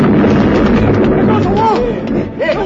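sound effect, dynamite explosion

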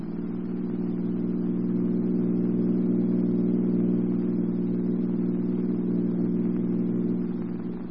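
vehicle, car driving off

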